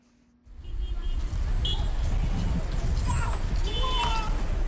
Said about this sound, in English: Car honking, people rushing to work, vendors selling coffee by the side of the road. The streets of Abidjan look just like any other day, just a few hours after results were announced.